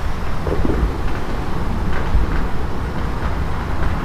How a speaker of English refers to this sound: Noisy cars.